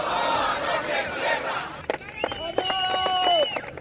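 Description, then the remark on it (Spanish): Alcoa factory workers on a protest march on foot to the government delegation in Oviedo, Asturias, in rain and cold, shout loud chants together, a dense roar of voices, then sharp percussive claps or drum hits and sustained tonal notes like whistles or horns join in. “Ni la lluvia ni el frío son un obstáculo. Su grito no decae.”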